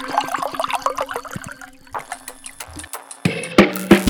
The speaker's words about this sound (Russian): Заливаем аккуратненько вискариком.